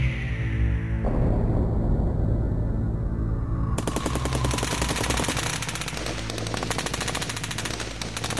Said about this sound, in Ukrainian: Так от, того вечора постріли посипалися на наших рясно.